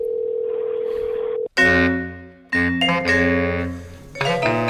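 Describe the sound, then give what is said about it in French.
A steady, mid-pitched telephone dial tone hums for about a second and a half, then gives way to a loud, bright electronic ringtone of chiming notes that step through a short melody. “Je vais remettre là, ici, un bruit de téléphone.”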